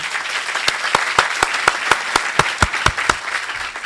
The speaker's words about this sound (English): It's a pleasure to join you, and how about another round of applause for our good friend, Mayor Franklin.